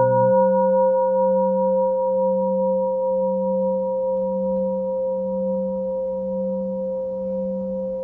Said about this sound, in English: May the sound of the bell reach deeply into the cosmos, in even the darkest places, may beings hear it clearly, so that understanding